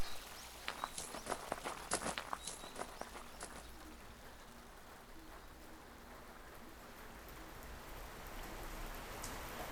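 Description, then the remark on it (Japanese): Steady rain hisses across the whole stretch, with a burst of sharp crunchy steps or splashes in the first few seconds before settling into an even, soft downpour. No one speaks. “雨？もうちょっと、もうちょっとだけ。”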